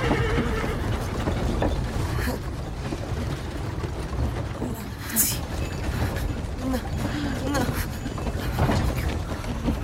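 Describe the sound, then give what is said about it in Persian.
A horse-drawn carriage with wooden walls, driven by someone with long blond hair and moving away from Cintra, rolls along with a steady low rumble, scattered hoof clops and wooden creaks. A horse neighs at intervals over the continuous clatter. “از پشت دیوار چوبی عرابه میبینه که کسی با موهای بلند و بور عرابه رو میرونه.”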